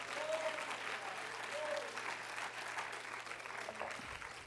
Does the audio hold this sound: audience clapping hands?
yes